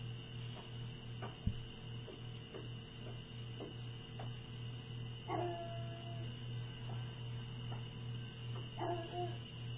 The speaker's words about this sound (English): My dogs are barking. 1 second.